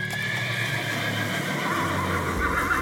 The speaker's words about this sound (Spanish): Y en eso, los caballos se alebrestan. Frenan el paso en su aviso de haber visto algo que los turba.